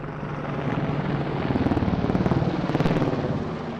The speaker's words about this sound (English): Apache helicopters swarm like giant armored dragonflies above this sprawling expanse cut from the northern Michigan pines. It's a beautiful blue day with white puffy clouds casting mesmerizing shadows on the green clearing below.